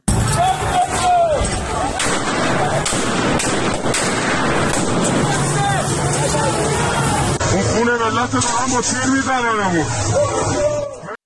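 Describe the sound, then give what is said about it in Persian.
Sharp bursts of gunfire from government forces shooting at protesters crack through a noisy, hissing scene on Pirouzi Street in Tehran, Iran, on Thursday 18 Dey, with a crowd shouting and yelling throughout and several voices rising louder near the end. “تصویری منتشر شد از خیابان پیروزی تهران و در اون تیراندازی نیروهای حکومتی به سمت معترضان رو نشون میده.”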